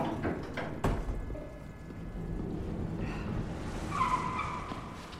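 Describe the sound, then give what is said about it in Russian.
A car pulls away in a dark covered parking garage with a sharp tire squeal echoing, engine rumble lingering low beneath, then a brief whine of tires fading as it moves off. “Рути оборачивается и смотрит, как позади отъезжает машина.”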